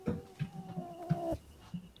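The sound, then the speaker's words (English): A pet growls while biting someone: a low, quiet growl rumbles steadily for about a second with a faint tonal edge, then stops, leaving soft background noise and a brief murmur near the end. “Do you guys want to hear Dottie growl?”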